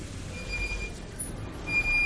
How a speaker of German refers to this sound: Aber wie kommt der Raupenbagger denn zur Baustelle? Mit dem Laster. Allerdings mit einem riesigen, ganz langen Laster. Der heißt Tieflader.